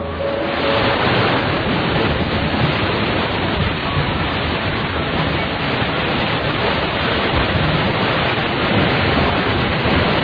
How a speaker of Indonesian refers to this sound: Begitu bunyi gemuruh air terjun terdengar, kami langsung heboh dan berlari mencari asal suara itu.